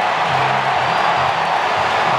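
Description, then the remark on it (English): A large baseball crowd at Wrigley roars and cheers after Mike Tauchman's game-winning home run for the Cubs, a dense, steady wall of noise, loud and unbroken for the whole stretch, with no voices standing out above it. “Listen to this crowd.”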